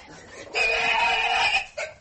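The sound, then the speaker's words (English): A big pig lets out a loud, shrill squeal lasting about a second, followed by a shorter squeal right after, as it is inoculated with hog cholera vaccine in a laboratory pigsty. “Oh, this is quite a big pig. He looks very stubborn.”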